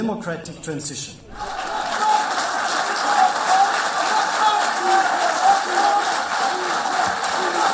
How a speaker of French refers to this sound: Voilà, on entend les applaudissements, des cris, Libya, Libya. On entendait la voix de Martin Kobler, l'émissaire des Nations Unies, lors de cet accord trouvé en Tunisie.